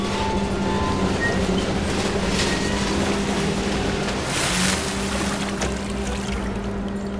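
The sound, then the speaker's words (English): A steady mechanical motor hum drones throughout as a crane lifts a heavy beam, sunk to a depth of 4 meters, out of the water, with continuous rushing water and a brief louder gush of draining water partway through. No one speaks. “Let's take it out of the water.”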